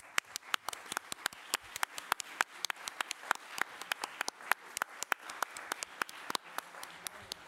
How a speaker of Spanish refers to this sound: Os pido también un fuerte aplauso para todos ellos, ¿vale?